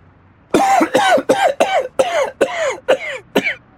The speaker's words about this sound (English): I need something for a sore throat and can't stop coughing.